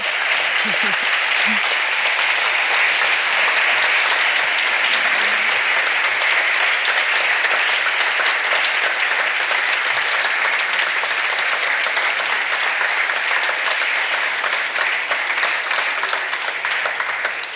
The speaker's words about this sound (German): Bitte einmal einen Applaus. Danke, danke.